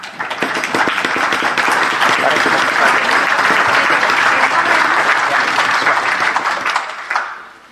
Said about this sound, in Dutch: En u mag daarvoor met mij klappen of een licht geroffel maken op de tafel.